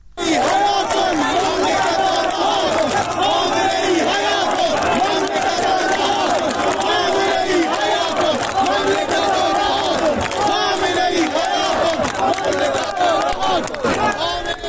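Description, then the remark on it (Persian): A large crowd of protesters in Zahedan, Iran, chants slogans together in the street, including slogans against the clerics and Khamenei, loud and sustained, with rhythmic shouted phrases rising over a dense roar of voices throughout. “بخشی از شعارهای مردم هست: توپ تانک فشفشه، آخوند باید گم بشه، خامنه ای قاتله، ولایتش باطله و شعارهای دیگری سر دادن.”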